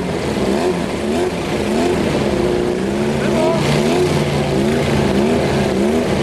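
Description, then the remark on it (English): Loud, continuous engine roar from powerful drag racing cars idling and revving at the start line while staging, with rising and falling tones layered over a deep rumble, steady throughout without pause. “In drag racing, staging is a tactical thing.”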